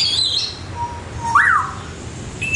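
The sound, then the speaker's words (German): A grey parrot in the Lewa Savanna habitat at Zurich Zoo chirps cheerfully in a few bright, whistled calls, including a rising-and-falling note in the middle, heard fairly clearly over a low rumbling background with no voices. “Graupapagei in der Lewa-Savanne zwitschert fröhlich.”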